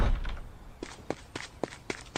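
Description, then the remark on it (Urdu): Someone bangs rapidly on a door, about six firm thuds in a quick, even rhythm, moderately loud, with no voices. “نبی بھائی دروازہ تو کھولے، بچائیں مجھے”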